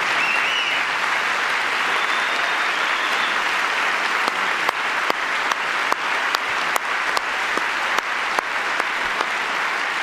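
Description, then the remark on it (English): A large audience applauds loudly and steadily for about ten seconds, a dense wash of clapping with a few sharper individual claps standing out toward the end, and no voices. “No Democrat clap for that.”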